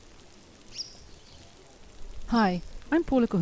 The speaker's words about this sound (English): No, that's not the sound of a juicy piece of steak sizzling on the barbecue. That's the sound of millions and millions of maggots chewing their way through a juicy piece of steak out here in the Nairobi National Park.